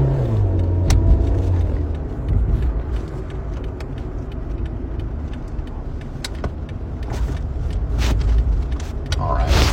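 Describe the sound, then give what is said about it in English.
Steady road traffic rumbles, a deep engine drone with faint tire noise that holds fairly even throughout, broken by a few sharp clicks and knocks. “Alright, now we're gonna bolt out in front of these cars.”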